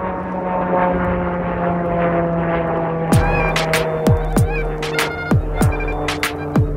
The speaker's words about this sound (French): Et là, il y a un avion qui passe parce qu'on est juste à côté des aéroports Charles de Gaulle.